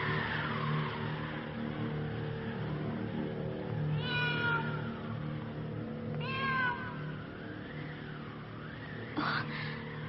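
A cat meows two or three times at spaced intervals, each cry a clear, drawn-out wail over a steady low background hum, with no one speaking.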